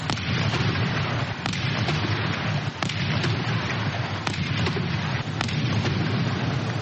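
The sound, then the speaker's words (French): A 21-gun cannon salute booms at fairly regular intervals for the swearing-in of Nigerian President Muhammadu Buhari for his second term on 29 May 2019, several sharp blasts rolling out over a constant, dense rumble of outdoor noise, with no voices standing out. “Une prestation marquée par 21 coups de canon.”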